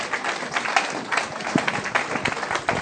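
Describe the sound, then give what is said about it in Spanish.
Steady audience applause as the next speaker is introduced for a talk on baroque style, a dense wash of many hands clapping at a fairly even loudness, with no voices standing out above it. “Sigue el aplauso porque si no vamos a tener media hora de runa, ya les dijimos.”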